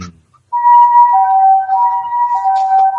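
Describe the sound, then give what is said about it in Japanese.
An ambulance siren starts after a brief pause as the ambulance is dispatched, its steady two-tone wail sustained loudly, with the pitch alternating between high and low notes. “今度は救急車が出動しました。”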